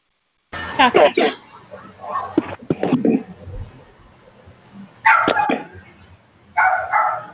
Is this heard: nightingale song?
no